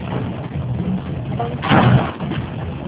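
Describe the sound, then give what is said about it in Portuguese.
A steady, harsh rushing hiss with a low rumble underneath, like car and wind noise through an open window, swelling louder for a moment before settling back to a constant wash. “Gente, tem alguém que está na áudio, de carro, com vidro aberto, alguma coisa assim? Está muito chiado.”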